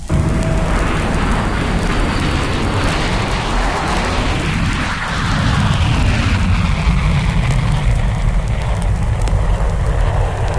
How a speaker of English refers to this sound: Listen to the tremendous surge of power as this jet plane burns a path through the blue.